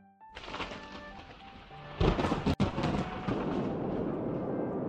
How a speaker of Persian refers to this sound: صدای رعد و برق زیاد و زیادتر شد و ابرهای تیره تمام آسمان را پوشاند.